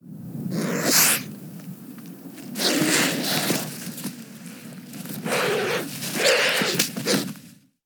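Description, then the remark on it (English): A bird gives a series of harsh, breathy hisses, about four drawn-out bursts of airy noise separated by short pauses, over a steady low rumble. No one speaks. “Apparently they don't even have proper vocal organs like other birds.”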